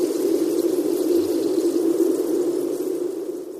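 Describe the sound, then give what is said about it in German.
Sonified seismic waves from movements of the Earth's interior, barely perceptible to human senses and acoustically transformed, form a steady, dense rushing rumble like pouring water, holding an even loudness for a few seconds with no voices. “Dombois selbst hat Bewegungen des Erdinnern hörbar gemacht, indem er seismische Wellen, die für die menschlichen Sinne kaum wahrnehmbar sind, akustisch transformierte.”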